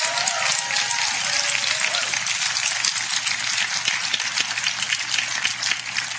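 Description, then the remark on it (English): A crowd breaks into sustained applause, a dense, steady wash of many hands clapping at once, loud and even from start to finish with no voices standing out. “Give him a big clap off this.”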